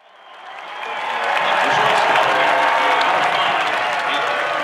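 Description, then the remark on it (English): A crowd of 2,600 at Centennial Field baseball park in Vermont, home of the Vermont Lake Monsters, cheers and applauds at the top of the ninth inning on August 20, 2021, the noise swelling over the first second or so, then holding at a loud, steady roar of clapping and voices. “A crowd of 2,600 fill the stands at Centennial Field, one of the oldest baseball parks in the country.”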